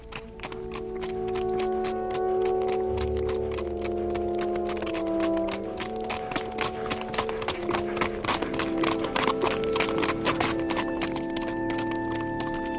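Hooves of a trotting horse clop steadily on a hard road winding along the dry bed of the Durance beside a row of hills, with rows of trees on each side; a quick regular rhythm grows louder and busier midway, with a low sustained drone underneath.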